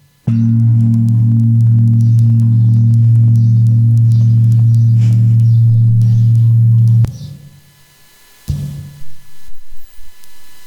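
A medium-sized gong sounds a deep, steady hum with slow pulsing beats for about seven seconds, then stops abruptly; a second, shorter stroke rings out and fades quickly.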